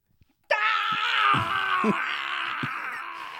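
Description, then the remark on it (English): A loud, sustained human scream from a man who just cut his hand off bursts in abruptly after a brief quiet moment and holds for about three seconds, harsh and wailing, with a few low thumps underneath. “It was wow. a pretty loud scream.”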